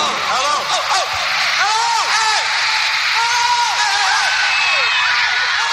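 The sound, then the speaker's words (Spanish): A crowd of fans screams and shrieks continuously at a concert in The Cavern Club, Liverpool, on 22 August 1962, many high voices overlapping in rising and falling wails, loud throughout with a dense roar of noise beneath. “Ya se escuchaban algunos gritos de los fans por ahí, pero nada en comparación con lo que vino después, a partir de 1964.”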